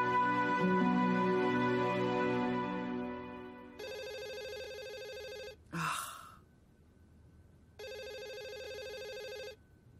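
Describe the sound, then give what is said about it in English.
A telephone at a nursing home rings in two distinct bursts with a pause between, following a fading musical tone; a brief breathy gasp-like sound falls in the gap. The ringing is clear. “Go and pick up the phone.”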